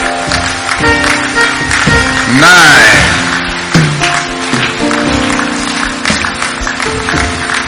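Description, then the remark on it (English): An audience clapping along in a steady rhythm, the claps mixed with loud, sustained singing voices and music that swell briefly midway. “Keep clapping.”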